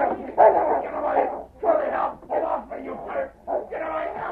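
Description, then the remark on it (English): A big dog barks and snarls aggressively as it leaps at a man, in several rough, drawn-out bursts with brief gaps between them, loud, with no one talking. “Quickly, the big dog pushed open the door, and in a flash leaped at Spike, whose arm was raised to strike Kenny.”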